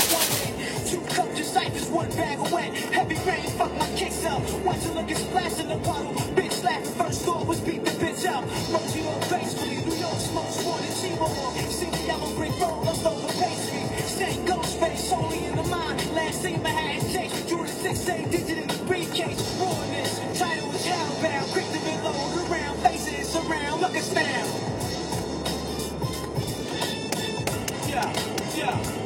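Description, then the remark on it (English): Steady, droning road noise heard from the front seat of a moving car in traffic, a continuous low rumble with a faint hum that stays fairly even throughout, with light rattles, clicks and rustling plastic bags scattered over it. “I got my stuff with me here in the front seat of the car.”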